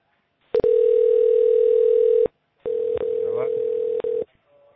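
A steady electronic phone-line tone sounds in two long bursts of about a second and a half each, separated by a short gap and marked by faint clicks, clear and fairly loud.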